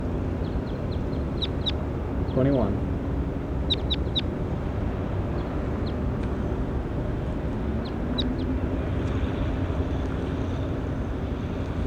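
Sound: bird calling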